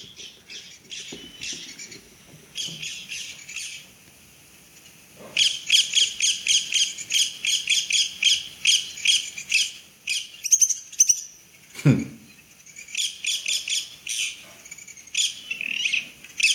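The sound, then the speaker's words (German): A recording plays rapid bursts of high, chattering bird contact calls that repeat in clusters, loud, with brief pauses between bouts and a low thump partway through. “Hast du den Ruf denn jetzt da? Mal, ja, ich lass mal laufen.”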